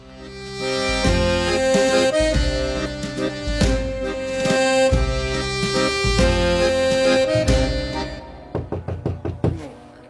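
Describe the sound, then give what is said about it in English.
Loud music plays for about eight seconds, then gives way to a quick series of roughly six sharp knocks on a front door, rapped in an uneven rhythm. “someone's at the door.”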